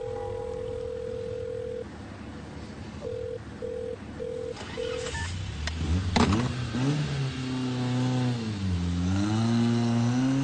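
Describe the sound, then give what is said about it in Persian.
A young man hangs up a phone: a steady phone tone and a few short beeps give way to a clunk as he tosses the handset onto the car dashboard. Then the car engine starts revving and the car drives off, its low growl climbing and surging in pitch. “پسر جوان تلفنو قطع میکنه، گوشیو پرت میکنه رو داشبورد، با ناراحتی حرکت میکنه و میره. میشنوی؟”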